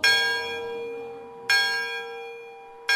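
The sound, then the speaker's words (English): A large bell rings out in slow, measured strokes, three strikes about a second and a half apart, each leaving a long shimmering hum that fades before the next, rung to call the Hancock Shakers to a meal as the dining room doors open. No voices are present. “The bell rings, the doors open, and all file into tables on their assigned side of the room.”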